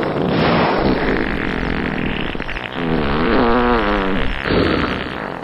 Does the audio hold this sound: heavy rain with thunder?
no